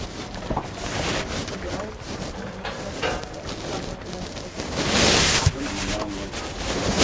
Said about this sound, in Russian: Ну, как будто бы тут сильный дождь идет.